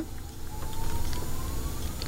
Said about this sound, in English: I'm concerned that this whole time in the background there's been a fire alarm going off.